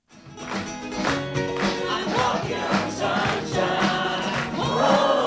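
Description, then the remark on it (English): An audience of nearly 200, on their feet at the first Sunday Assembly Silicon Valley meeting in a community theater in San Jose, claps along in a steady, even rhythm while many voices sing together over music, loud and full throughout. “has the audience of nearly 200 on their feet, clapping along and singing.”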